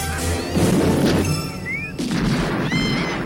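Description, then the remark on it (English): A huge explosion: a loud, sustained blast of rumbling, crashing noise fills the scene, with heavy low booms, debris-like clatter and whistling tones swirling through it. “Fucking explosion! Huge explosion, by the way.”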